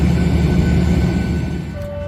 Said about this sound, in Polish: Pociąg idzie. Wsiadamy.